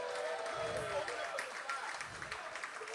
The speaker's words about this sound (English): Let's give him a nice round of applause.